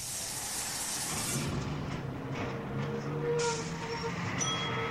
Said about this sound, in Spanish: Ahí viene el bus, me voy.